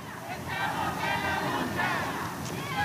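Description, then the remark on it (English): A crowd of several hundred people gathered in a street in an industrial part of Tacoma, Washington, on a rainy Saturday, beside a gray concrete building, with many overlapping voices shouting and chattering at once in a steady, loud din where no single speaker stands out. “Despite the weather, several hundred people crowd into a street in an industrial part of town.”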